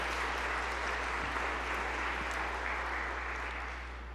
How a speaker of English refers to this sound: I think that deserves an applause. I wish you would applaud yourself.